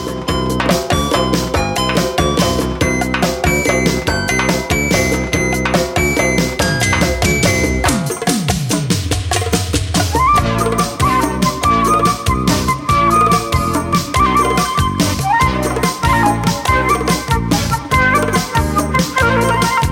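Instrumental intro of a Persian pop song plays loud and full, with a steady rhythmic beat, bright melodic lines and a sweeping transition midway, and no voices throughout.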